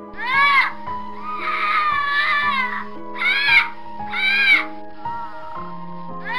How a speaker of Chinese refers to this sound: 不一会儿，哭声准时响了起来，李军不禁有些兴奋，今晚就要将这祸害解决掉。